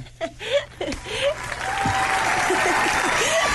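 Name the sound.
applause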